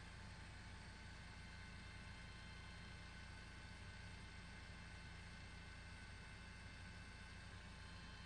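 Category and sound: vehicle, helicopter flying overhead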